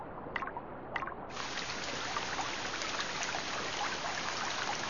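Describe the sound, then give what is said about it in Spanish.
Water trickles and flows steadily over the ground, irrigating the land, plains and fields, in a constant, even wash of sound, preceded by a couple of faint drips or taps at the start. No one speaks. “Se deshacen irrigando el terreno y las llanuras y los campos reciben una abundante ración de agua.”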